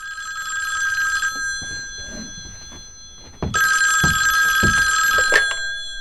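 A telephone rings loudly in two long bursts separated by a short pause, each ring a bright, shrill, steady tone with a rapid trilling buzz. No one speaks.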